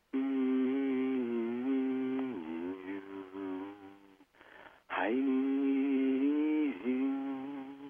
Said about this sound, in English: Humming can be very cool. Just doing a soft hum for somebody. You might hum along now.